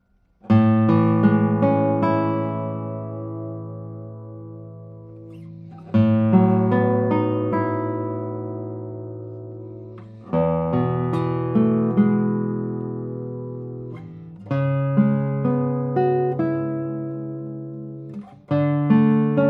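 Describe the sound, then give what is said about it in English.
A brand-new acoustic guitar, number 108, with a cedar top and cerakote back and sides, strums five chords spaced about four seconds apart, each one ringing out and slowly fading with long, rich sustain. No one speaks. “It comes with a cedar top and cerakote back and sides. It looks very simple, but the sound doesn't sound simple at all.”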